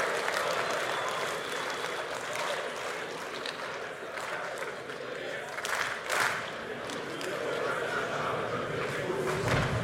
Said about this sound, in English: If you want the examination, then clap your hands.